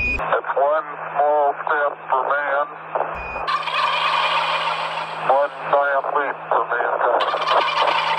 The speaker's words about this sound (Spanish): Ahí está. Un pavo acompañaba a Neil Armstrong en su llegada a la luna. La humanidad no está sola. La acompaña un pavo.